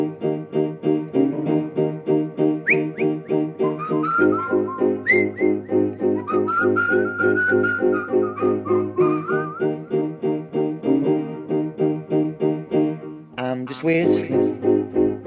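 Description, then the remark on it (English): Someone whistles a lively, bouncy tune nonstop, the melody moving in short, evenly spaced pulses with a steady rhythm. It's fairly loud, with nobody talking. “I'm just whistling every day.”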